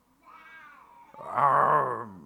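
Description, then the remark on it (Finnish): A human voice imitates a lion's roar in answer to the question of how a lion sounds, during a lesson on animal sounds: a drawn-out, strained vocal growl that begins moderately, swells into a louder, rougher burst halfway through, then trails off. “Ja miten sitten leijona sanoo?”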